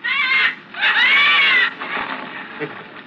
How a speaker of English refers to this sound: or you'll set the birds to cawing. Caw! Caw! Caw!